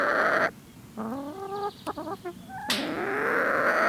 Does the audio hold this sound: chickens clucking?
yes